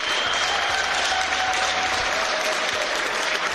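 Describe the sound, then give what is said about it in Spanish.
Sustained applause from more than 300 coronavirus patients in the IFEMA pavilion in Madrid, lying and sitting on their stretchers, applauding the professionals caring for them: a dense continuous patter of many hands clapping at steady loudness throughout, with no voices standing out. “El aplauso emociona de las más de 300 personas que están ingresadas con coronavirus y que se encuentran en el pabellón de IFEMA en Madrid.”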